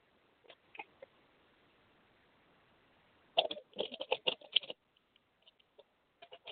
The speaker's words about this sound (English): Okay. Let me shuffle the cards real quick.